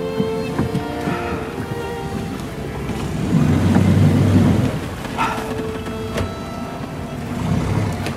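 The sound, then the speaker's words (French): A boat motors across the water in Venice with a steady engine drone that swells louder midway, plus wind and splashing wash; no one speaks. “on a grimpé dans votre bateau.”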